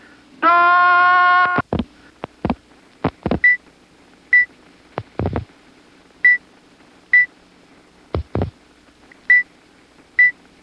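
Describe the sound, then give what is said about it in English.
A customer dialing a payphone: a sustained ringing tone, then sharp clicks for the digits, with short high dings of pennies going into the phone repeating about once a second in between. No talking. “what are those high-pitched dings I'm hearing in between the digits? Those dings are the sounds of pennies going into the phone.”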